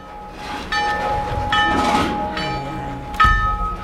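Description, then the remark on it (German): A railway station bell rings to announce an arriving train, in repeated bright metallic strikes, each leaving a sustained ringing tone, over a low rumbling background of rail noise. No one speaks. “sie weisen auf die Bahnhofsglocke hin. Und zwar haben die immer dann geläutet am Bahnhof, wenn ein Zug am Kommen war.”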